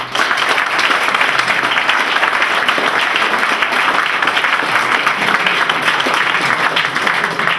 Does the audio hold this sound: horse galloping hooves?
no